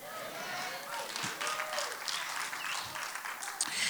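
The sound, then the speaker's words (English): An audience applauds to give God praise, with steady, scattered clapping that stays fairly even and subdued for a few seconds, with some voices murmuring and calling out underneath. “Now that was the clap of a whiner.”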